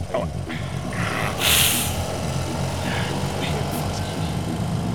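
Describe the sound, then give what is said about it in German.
A motorcycle engine rumbles steadily, idling low with a brief louder rev early on before settling back into a constant throaty drone. “Am besten ich steige aufs Motorrad. Das geht schneller als mit dem Auto.”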